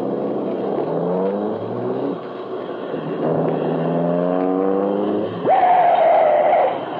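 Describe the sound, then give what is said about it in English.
A car engine roars as the car comes fast along the street, running close to the curb, its pitch climbing in repeated rising sweeps as it speeds up, ending with a sustained high whine near the end. “Car coming fast. Running close to the curb over there.”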